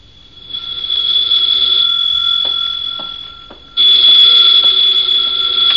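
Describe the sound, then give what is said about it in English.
A telephone rings in two long, shrill bursts separated by a short pause, its high metallic bell tone loud and steady, with no voices. “Then there was the phone.”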